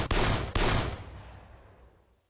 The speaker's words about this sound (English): Gina suddenly froze at the sound that meant loss. Gunshots.